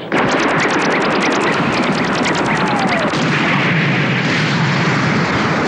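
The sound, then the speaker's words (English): A rapid, loud volley of laser cannon blasts fires in a fast steady rhythm for about three seconds, then gives way to a dense, continuous roaring rumble with no voices. “Firing cannon laser.”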